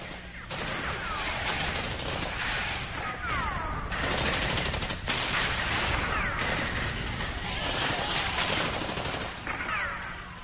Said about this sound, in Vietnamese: Súng nổ từ bốn hướng, M72 bắn tung hầm trú ẩn, M79 phá nát hố cá nhân, mười đạn nổ đâm càng đại liên, M16 bắn vỡ tung nóng cúi, M60 bắn gục bất cứ ai ngắt đầu lên khỏi mặt đất.